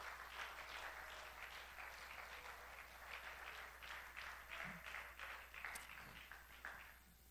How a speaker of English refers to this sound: Why don't you clap your hands and applaud the Lord?